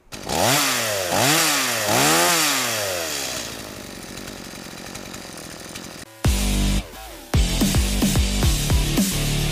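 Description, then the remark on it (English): A chainsaw revs up loudly in repeated rising-and-falling bursts, then settles into a steady idle before cutting out, followed by louder rough engine sounds with sharp, choppy revs. “Hey, do you guys know why the chainsaw was invented?”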